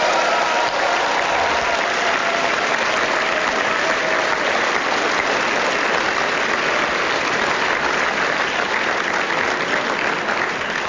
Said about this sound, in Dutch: keihard hebben ingezet voor het succes van de ledenraadpleging over het VVD-lijsttrekkerschap een zeer hartelijk applaus.